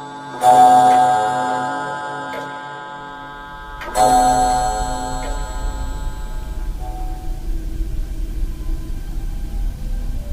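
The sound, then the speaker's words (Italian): A clock strikes for midnight, two deep, resonant bell tones ringing out and slowly decaying, followed by a low, steady rumble that carries on after the chimes fade. No one speaks. “Là, fra l'ombra e la luce, fra la paura e la conoscenza, al rintocco della mezzanotte appare una porta.”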